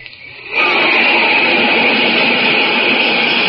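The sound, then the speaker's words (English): A flight of jet planes flashes across the sky overhead, flying faster than the speed of sound. The loud, steady rushing whine bursts in after a brief quiet moment and holds at full strength, with no voices. “That's a flight of jet planes flashing across the sky, flying faster than the speed of sound itself.”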